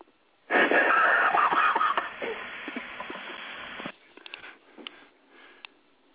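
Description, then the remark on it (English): A loud burst of static white noise hisses steadily for about three seconds, then drops to a fainter, crackly hiss with scattered clicks. No one speaks. “The hell is this white noise?”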